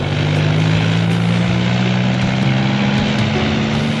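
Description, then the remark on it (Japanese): A helicopter engine roars steadily and loudly, its low droning pitch creeping upward as the rotors spool up for takeoff, with a constant rushing wash of noise around it and no voices. “ヘリが出るぞ、乗れ。”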